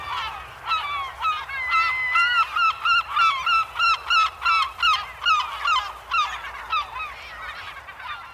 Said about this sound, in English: Every morning in life, herring gulls would perch on the roof ridge and kick off like that.